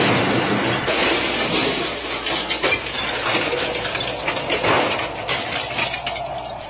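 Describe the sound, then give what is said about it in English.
A car plunges into a swimming pool: a loud, broad rush of churning water and splashing that surges in uneven bursts for several seconds, with no voices. “Look, you're going into the ditch. Won't turn. Well, look out, the pool!”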